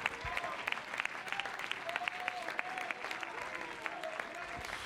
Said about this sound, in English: Oh, clap your hands unto him. What a good God.